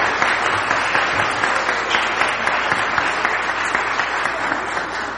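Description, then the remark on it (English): A sustained burst of audience applause for the actors and actresses, dense and steady clapping from many hands filling the whole stretch at an even, fairly loud level without pause. “Let's give one more round of applause for all of our actors and actresses here.”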